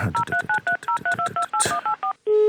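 A rapid run of about a dozen telephone keypad tones as someone places a phone call, each a short two-pitched beep, followed by a steady tone as the number finishes dialing.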